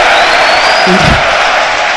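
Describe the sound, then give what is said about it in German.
A large stadium crowd of football fans applauds in a dense, steady roar of clapping, with a brief low shout rising out of the noise around the middle, celebrating the first yellow card shown to Aue. “Und wir hören es, die Fans feiern die gelbe Karte mit Applaus, weil es endlich die erste gelbe für Aue ist.”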